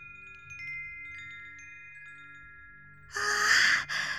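wind chime ringing

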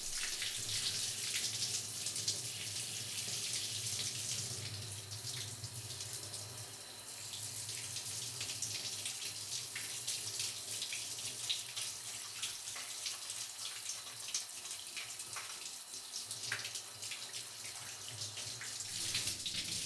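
shower water running

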